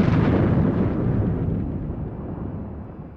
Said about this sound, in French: L'énorme navire s'enfonce lentement. Le Nautilus observe tous ses mouvements. Tout à coup, on entend une explosion.